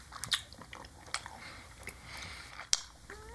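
Wet chewing of soft, sticky Haribo gummy bears, with squishy mouth sounds and a few sharper clicks and smacks at irregular moments. No one talks.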